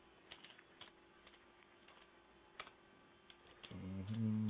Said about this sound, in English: That's for a reminder. That shit funny. I'm talking and typing and shit.